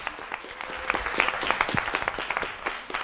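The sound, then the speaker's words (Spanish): An audience applauds for a few seconds, a dense patter of many hands clapping at a steady, moderately loud level with no voices over it. “Pues muy bien, le damos un aplauso.”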